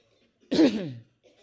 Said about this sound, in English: Just take a deep breath and cough them out.